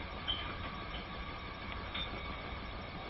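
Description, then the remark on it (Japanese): A steady, enveloping rumble of a moving JR Central train bound for Tokyo via Kyoto, Nagoya, Shin-Yokohama and Shinagawa, heard from inside the carriage, with continuous low roar and a couple of faint, brief high-pitched squeals from the wheels. “この電車の自由席は列車の後ろより1号車から3号車です。”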